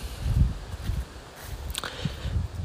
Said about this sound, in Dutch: Ik zie allemaal varens om me heen die ook in het zonlicht staan. Misschien hoor je de wind af en toe er doorheen komen.